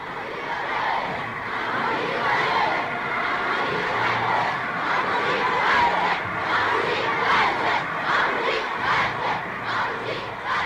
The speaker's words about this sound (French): La foule acclame.